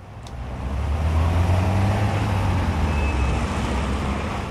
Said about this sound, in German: So oder ähnlich klingt es am Wohnort von 1,6 Millionen Menschen in der Schweiz. Sie leiden unter Straßenlärm.